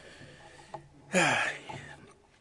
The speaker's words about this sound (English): By the way, I never like blowing my nose when I'm speaking, but it is what it is.